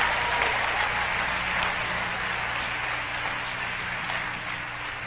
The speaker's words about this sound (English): Clap your hands one time by faith.